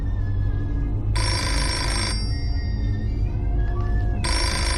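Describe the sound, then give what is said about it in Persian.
A telephone rings in two long bursts separated by a pause, each a bright, buzzy electronic ring over a steady low background hum, fairly loud, with no one speaking. “تلفن رو جواب نده.”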